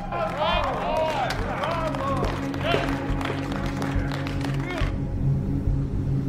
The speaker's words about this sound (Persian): مهمونا دست میزنن.